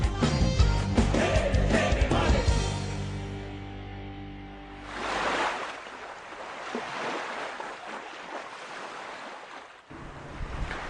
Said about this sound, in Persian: یه لحظه اگر سکوت بکنیم صدای دریا میشنویم. به به موجه های ریز ریز دریا که داره میزنه به کنار ساحل